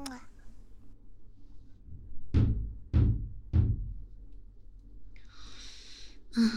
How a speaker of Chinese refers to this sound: 这么晚了，怎么还有人敲门呢？来了。稍等一下。